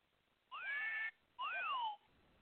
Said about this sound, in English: That's a whistle, so I can use that like when something's shocking.